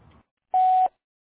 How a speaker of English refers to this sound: Sorry we can't come to the phone right now, but your business is important to us. Please leave your name and a number and a message after the tone.